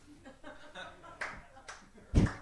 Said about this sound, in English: One guy applauding.